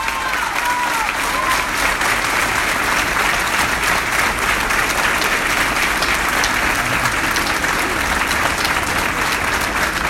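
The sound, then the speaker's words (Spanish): Sustained, dense applause from an audience at an election campaign event in Las Flores fills the whole ten seconds at a steady loud level, many hands clapping into a continuous wash with a few whistles cutting through. “Muy bien, fuerte el aplauso.”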